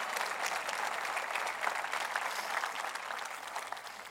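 A large group at a morning worship service applauds steadily, a dense, continuous patter of many hands clapping at even loudness throughout, with no speech over it.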